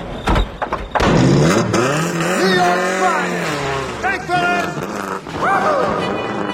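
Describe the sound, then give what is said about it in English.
A convertible car's engine roars loudly, revving and climbing in pitch as it accelerates hard and speeds away, with its whine rising and dipping over several seconds. “The convertible whizzes away.”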